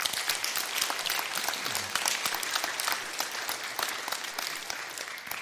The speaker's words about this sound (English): So let's give a round of applause to these leaders up here.